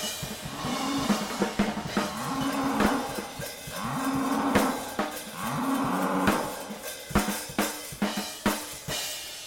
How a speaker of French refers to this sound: Fin d'histoire. Fin de l'histoire avec un superbe concert de vaches, de meuglement de vaches.